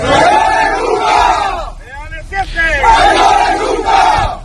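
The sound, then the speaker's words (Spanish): Elite police and army units deployed in the streets of Caracas, Venezuela, chant the slogan 'Leales siempre, traidores nunca' in unison, loud and rhythmic. There is a brief break midway where a few individual shouts stand out before the massed chant resumes. “Leales siempre, traidores nunca, al grito con parte de los grupos de élite de la policía y del ejército que están desplegados en las calles de Caracas.”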